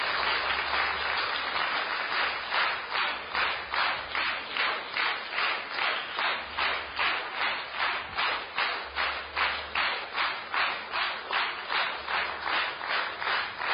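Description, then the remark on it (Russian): An audience applauds one another for their work, clapping steadily for several seconds, the clapping falling into a regular, rhythmic beat that pulses about twice a second. It sounds full, with no one talking over it. “Поаплодируйте друг другу за ту работу, которые вы вели здесь.”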